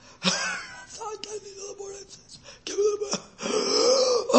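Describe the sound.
A man imitates gasping for air with strained, drawn-out groaning breaths and sharp rasping inhales. The bursts repeat several times, fairly loud, with no clear words.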